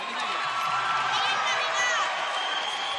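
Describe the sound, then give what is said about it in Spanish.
An audience applauds and cheers after a villancico (Christmas carol) performance, in a steady, dense wash of clapping for about three seconds, with a few high whoops and overlapping voices rising through the middle. “Un aplauso.”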